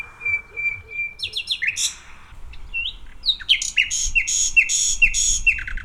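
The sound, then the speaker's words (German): Nightingale song played back from a researcher's phone speaker, held toward a roughly 100-metre-wide green strip of dense bushes between a road and a residential area, in a nightingale territory: a long steady whistle, then rapid repeated chirping bursts and trills, loud, over a low rumble of traffic. “Und wir versuchen jetzt mit einem ganz kleinen Playback rauszufinden, ob die Nachtigall gerade hier mit uns singen will.”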